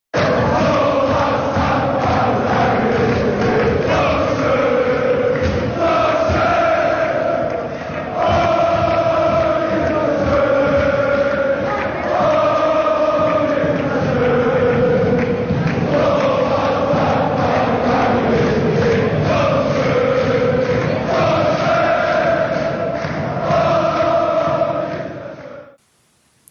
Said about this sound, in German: So, das war der Jubel in Kaiserslautern.